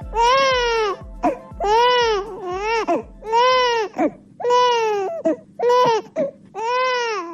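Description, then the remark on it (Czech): A baby in Bosnia and Herzegovina cries loudly in repeated wailing bursts, about seven high, quavering cries separated by short gasping breaths, with no talking. “Ovaj zvuk plača bebe u Bosni i Hercegovini, sve se slabije čuje.”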